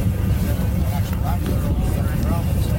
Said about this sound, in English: Queens County fishermen motored out at 7 a.m.